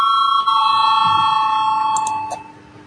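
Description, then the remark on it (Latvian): A steady electric voting bell in a parliament rings continuously with a bright, buzzing metallic tone and strong harmonics, calling deputies to vote on a proposal. It holds loud for most of its length before fading slightly at the end, with faint murmuring underneath. “Lūdzu zvanu, balsosim par 4. deputāta Valaiņa iesniegto priekšlikumu.”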